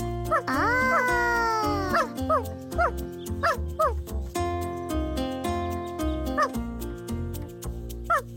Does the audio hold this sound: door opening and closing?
no